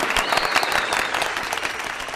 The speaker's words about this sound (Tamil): So அவங்களுக்கு நம்ம first வந்து கைத்தட்டுக்களை சமர்ப்பணமாக்கிறோம்.